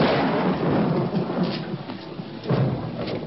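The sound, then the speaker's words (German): A loud, rumbling thunder crash rolls through with a broad roar, swelling again near the end, with a steady wash of rain hiss underneath and no voices. “Es blitzt und donnert.”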